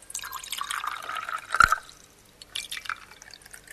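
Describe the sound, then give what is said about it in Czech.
Water pours into a glass with a steady splashing trickle, broken midway by a sharp little clink, then continues in a lighter, more uneven stream, as water is poured into two glasses for making soap from oil. No one speaks. “U druge dve čaše ćemo sipati prvo vodu.”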